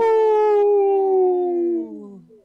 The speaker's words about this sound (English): This portion of the show is supported by Howling for Wolves, protecting wolves for future generations. Howl!